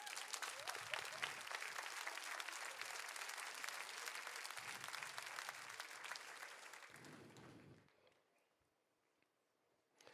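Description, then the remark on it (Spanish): An audience breaks into steady, dense applause that holds for about eight seconds before quickly fading to near silence. A faint murmur of voices runs beneath the clapping. “Dese un aplauso.”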